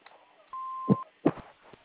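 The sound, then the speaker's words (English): A single steady answering machine beep, a flat mid-pitched tone lasting about half a second, heard over a thin phone line with a couple of muffled bumps around it. “If at the beep you would leave your name and number and a short message, we'll get back to you when we can.”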